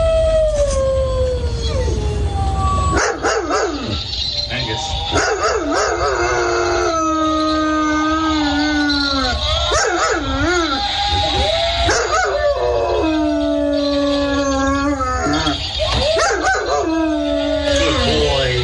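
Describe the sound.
A German Shepherd howls loudly and continuously alongside a plug-in electronic howling decoy in a front yard, their long wavering wails overlapping for the whole stretch, with the owner briefly calling out once in encouragement.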